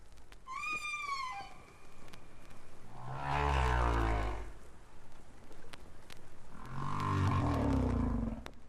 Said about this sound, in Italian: In questa registrazione si vuole esplorare il linguaggio diverso di ogni gruppo di balene. Ogni gruppo ha quello che potremmo definire il proprio dialetto.